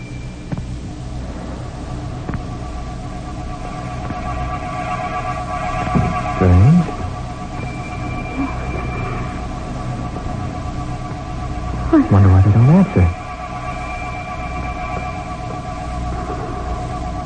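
An old-fashioned doorbell at a front door sounds twice, each ring a short, buzzy burst about a second long, spaced several seconds apart over a steady low hum and background hiss.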